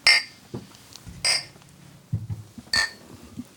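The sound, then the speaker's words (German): Three bright glass clinks ring out at roughly even intervals, each with a short high-pitched ring, like glasses touching in a toast, over a quiet low background rumble. “Dann auf jeden Fall Prost.”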